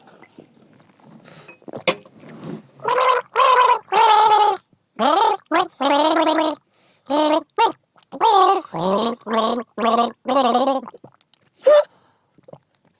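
gargling water

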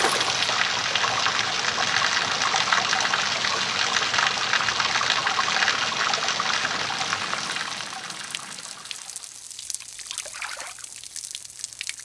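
water splashing

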